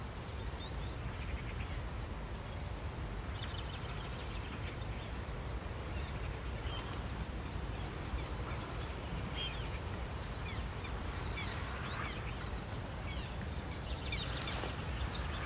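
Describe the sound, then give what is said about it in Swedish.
Black terns flying right overhead give short, thin calls repeatedly over a steady blustery wash of wind and low rumble, a few sharper chirps standing out toward the end, at Hercules, reed-filled former clay pits in the Kristianstad Vattenrike biosphere area, Skåne, Sweden, on a cool, slightly windy day. “Kommer de rätt över oss, svarthärnorna.”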